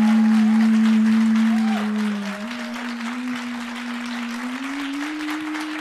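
A steady wash of audience applause runs the whole time, loudest at the start and easing slightly after two seconds, with a sustained low droning tone held underneath it.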